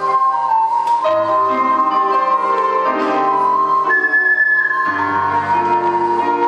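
An ocarina plays a smooth melody of sustained, breathy notes that step between pitches, carried over a steady chordal accompaniment at an even, fairly loud level, with no one speaking.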